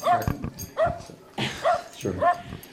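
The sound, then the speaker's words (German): An excited dog named Cracker yips and whimpers in several quick bursts, high-pitched whines mixed with short barks, fairly loud, with a little background voice activity, as it jumps up at a man who has just come home at 7 p.m. “ist soeben nach Hause gekommen, zur Freude von Hund Cracker, der an ihm hochspringt.”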